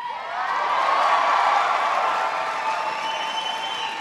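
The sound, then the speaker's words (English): A large crowd with many students cheers and applauds in Denver, Colorado, at an announcement on student loans, in a sustained, loud roar with whoops and high shouts riding over dense clapping, holding steady for several seconds without any speech. “You'll hear lots of students in the crowd.”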